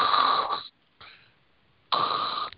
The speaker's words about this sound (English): Maybe she fell asleep. Yeah. Oh, maybe she's snoring. Well, that's embarrassing.